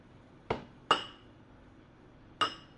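Three sharp clinks of cups of water knocking together in a toast, spaced irregularly with bright ringing tails, fairly loud over a quiet background with no talking.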